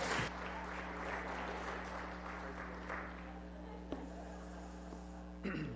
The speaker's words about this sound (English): So let's make sure we give him undivided attention, as well as a round of applause for taking up this position.